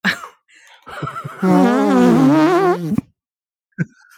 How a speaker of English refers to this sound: hosts do forearm farts